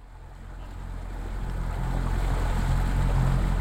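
A boat motor drones steadily and low on a lake, with water rushing beneath it and a bit of wind; the engine noise gradually swells louder over a few seconds. No one speaks.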